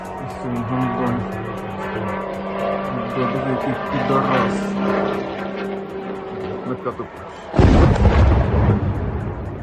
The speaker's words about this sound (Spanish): Los ucranianos los llaman motos por ese sonido que emite al atravesar el cielo. Es un dron de fabricación iraní llamado Shahed y sería la nueva arma con la que Rusia estaría golpeando a la población ucraniana.